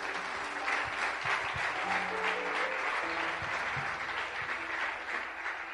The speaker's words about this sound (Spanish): Dele aplauso al Señor si puede.